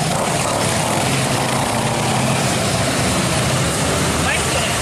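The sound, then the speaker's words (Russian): A dense, loud engine roar from a whole group of vehicles without mufflers driving past, a harsh, rumbling blare that holds steady for the whole few seconds without letting up. “Такое ощущение, что они специально глушители снимают. Как-то так. Их целая группа, целая толпа проехала.”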